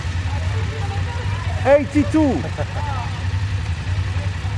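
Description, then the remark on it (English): A group of over 100 BMW 850 GS motorcycle engines at the International GS Trophy idles with a steady, low rumbling drone that fills the whole clip, while a man briefly calls out partway through. “Is there anything more evocative than the sound of a group of BMW motorcycles?”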